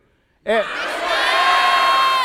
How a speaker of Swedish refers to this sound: För att man skriker ut sitt eget namn när vi säger till. Mm. Och det gör vi nu.